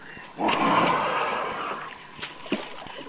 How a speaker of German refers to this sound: Jetzt stampft das Viech aus dem Wasser und verschwindet in den Büschen. So schnell kommt es sicher nicht wieder.